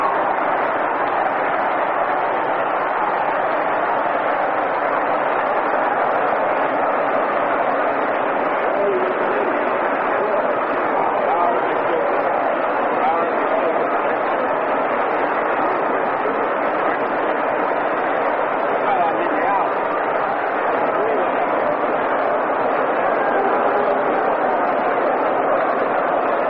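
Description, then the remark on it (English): A baseball stadium crowd at a New York Yankees game roars in a dense, unbroken wall of noise that holds steady and loud for the whole stretch, with no voice speaking over it, reacting to a defensive play as a runner is thrown out trying to stretch a hit to three bases. “Credit for a two-base hit, and the crowd electrified on that defensive play by the New York Yankees as Farrillo is out attempting to stretch it to three.”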